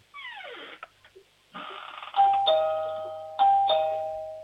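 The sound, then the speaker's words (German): A doorbell chimes twice, each a bright two-note ding-dong that rings out and slowly fades. Before the chimes come a few short, sliding, falling tones. “Türklingel haben.”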